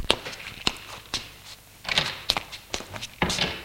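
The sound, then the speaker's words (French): A door is opened, then a person walks out of a bedroom, footsteps going away in a steady, uneven series of soft knocks and scuffs, moderately quiet, with no talking. “Il sort de la chambre.”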